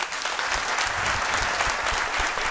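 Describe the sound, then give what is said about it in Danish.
An audience claps steadily throughout, a dense, sustained patter of many hands with no voices standing out above it. “I må meget gerne klappe igen, hvor mange havde hørt om travhesten Tarok?”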